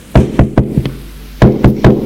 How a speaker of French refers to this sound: Trois heures plus tard, l'on frappe à la porte de son bureau.